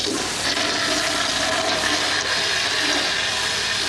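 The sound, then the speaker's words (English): A toilet flushes loudly, a steady rushing roar of water that fills the whole stretch without pause, with no voices over it. “Flush it, flush it, flush it.”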